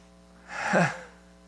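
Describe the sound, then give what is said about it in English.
A single sneeze bursts out, a sharp breathy rush that swells and cuts off within half a second, with nothing else around it but a faint steady hum. “God bless you.”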